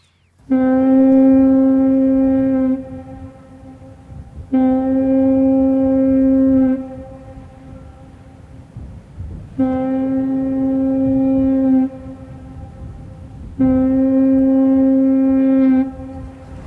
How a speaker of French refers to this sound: On appelle ça comment en français, des cornes de brouillard? Les cornes de brume. Ah, des cornes de brume, excusez-moi, oui